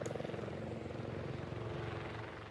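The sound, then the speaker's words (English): A firefighting helicopter's rotor thumps steadily and rapidly, loud, with a continuous engine roar and rhythmic blade chop filling the whole clip, as crews drop water bombs on a wind-driven wildfire on Table Mountain in Cape Town, South Africa. “Helicopter crews dropped water bombs in an effort to quell the blaze as winds rapidly spread the flames.”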